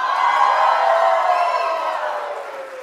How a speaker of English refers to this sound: So when someone comes down, goes down in the water and they come up, we celebrate. So I want you to celebrate. I'm going to say 1, 2, 3. I need you to cheer. Ready? 1, 2, 3.